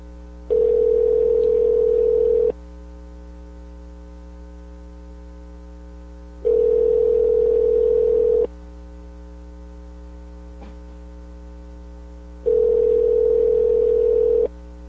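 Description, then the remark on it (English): A phone ringback tone on a call to a cell phone repeats three times, each two-second burst separated by about four seconds of quiet, heard over a steady low electrical hum with no one speaking. “Oh, it's ringing.”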